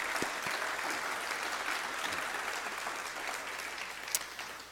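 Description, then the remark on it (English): An audience at the close of a candidate forum claps in a sustained round of applause for the League of Women Voters, a dense steady patter of many hands that holds its level throughout before easing slightly at the end. “And I think we should all give a round of applause to the League of Women Voters for doing an amazing job.”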